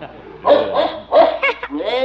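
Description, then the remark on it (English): A dog at a circus, scared by a cow, gives several quick yapping barks in an uneven burst, then ends with a short rising whine. The barking is loud and clear, with no other sound around it. “The cow scared the dog.”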